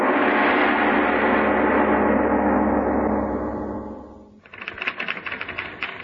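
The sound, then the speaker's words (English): A loud, sustained musical chord fades out, then a typewriter starts clacking rapidly and steadily, a quick burst of keystrokes with no talking. “Sitting at a typewriter 8 hours a day”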